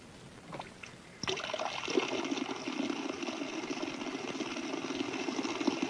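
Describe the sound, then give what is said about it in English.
After a brief quiet moment, a steady rush of ordinary water jets flowing from nozzles starts abruptly and continues evenly, a hissing stream with a faint low mechanical hum beneath it, part of a water-based three-phase high-voltage generator demonstration. “Moving medium is ordinary water.”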